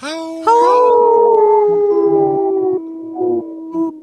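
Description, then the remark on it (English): Several wolves howl together in long, sustained, overlapping tones, each at a different octave, rising and then holding steady before trailing off with a few shorter howls near the end. Loud, no talking. “the wolves, all of them, when they do howl, do a different octave so that they sound like there's more wolves”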